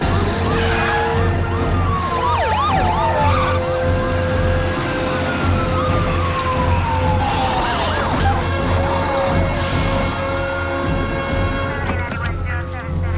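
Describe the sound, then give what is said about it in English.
Police escort sirens wail and yelp in overlapping sweeps while the engines of heavy trucks carrying enormous concrete rails rumble steadily underneath, loud for the whole stretch, with faint voices in the background. “A police escort heralds the arrival of a number of trucks carrying enormous concrete rails.”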